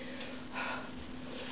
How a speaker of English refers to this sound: I can hear somebody breathing.